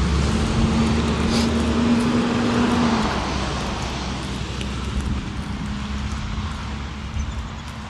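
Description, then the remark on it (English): A heavy garbage truck running on natural gas rumbles, its engine drone steady and loud with a humming tone early on, then easing slightly as road noise continues. No voices. “Garbage truck coming.”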